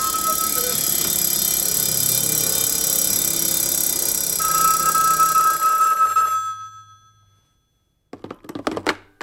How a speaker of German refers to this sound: Plötzlich war die Menge still und da erschien ein winziges Männlein, trat leicht geziert aus der Tür seines Hauses und da begrüßte ihn eine Kakophonie aus Klingen, Glocken, Bimmeln, Kuckucks und Gesang.